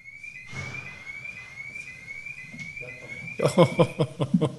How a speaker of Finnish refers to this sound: Nyt siellä jollakin auto huutaa.